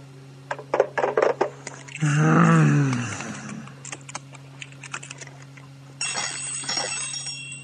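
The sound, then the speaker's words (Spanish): Quick keyboard typing clicks along, broken by a brief swelling tone, then a telephone starts ringing with a bright, high electronic trill that continues to the end. “Este teléfono.”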